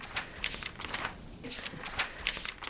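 Papers being leafed through, with a series of soft, dry rustles and brisk page flicks coming in irregular bursts, at moderate loudness and with no voices.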